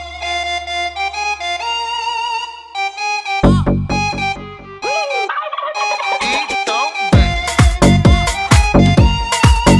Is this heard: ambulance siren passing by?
no